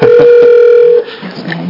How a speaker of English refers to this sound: That's not the right number. I don't think that's right. Definitely not the right number. Oh, I see what I did. I dialed the wrong number.